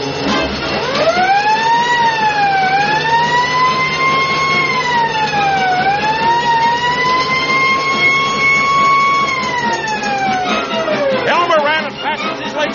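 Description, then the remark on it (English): A loud fire truck siren wails continuously, its pitch sweeping up and slowly rising and falling for about twelve seconds over a low, steady engine rumble, dominant throughout. “That sounds like a fire truck.”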